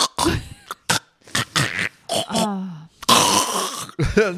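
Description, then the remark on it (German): A person imitates a snorer with breathing pauses: rough, rasping snorts and groans, broken by brief pauses, then a longer, louder gravelly snore before a final short grunt. “und schnarchen ja auch. Ja, und dann haben die so Atemaussetzer.”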